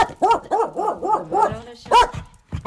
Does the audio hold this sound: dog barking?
yes